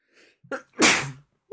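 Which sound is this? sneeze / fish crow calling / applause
sneeze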